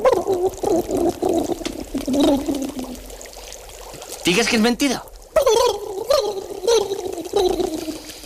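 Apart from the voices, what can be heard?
water bubbling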